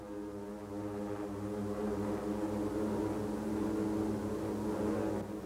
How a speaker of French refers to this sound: Il est 7h50 à l'horloge de la tour Aloha quand un vrombissement de moteur commence à se faire entendre.